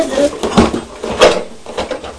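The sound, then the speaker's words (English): Toy trains rattle and clatter inside a box in a short burst of several hard knocks and scrapes. Nobody speaks. “And the trains are in this box.”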